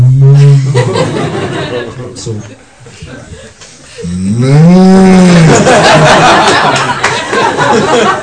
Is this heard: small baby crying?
no